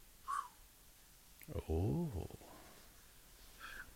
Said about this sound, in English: Pigeons.